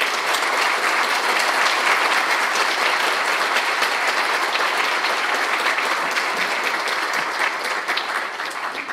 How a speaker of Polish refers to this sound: Więc dla wszystkich naszych prelegentów wielkie podziękowania. Niech wybrzmią także w oklaskach dla nich.